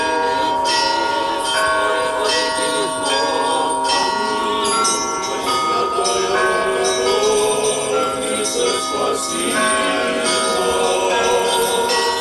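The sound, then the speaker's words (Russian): Church bells peal continuously and loudly as believers walk in a procession around the church after the liturgy on its patronal feast day, many overlapping rings clanging in a busy, layered chime without pause, with faint crowd murmur beneath. “После литургии верующие по случаю престольного праздника под колокольный звон обходят храм крестным ходом.”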